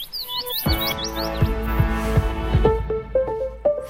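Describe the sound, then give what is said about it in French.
A short France Musique radio jingle at 8 a.m. marks the start of the news. It opens with quick, bright bird tweets chirping in a rising flurry, then a sustained musical chord with low rhythmic plucks and a few sparkling high notes closes it out. “Et c'est l'heure, non pas des petits oiseaux, mais peut-être des tweets, en tout cas c'est l'heure de l'actu”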